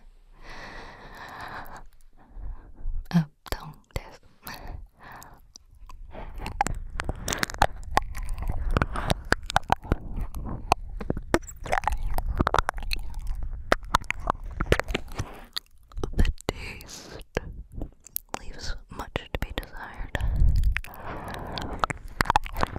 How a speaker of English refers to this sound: I'm sure I can lick away all the plastic, it's fine. Although, This doesn't feel like the same type of silicone as the 3D one.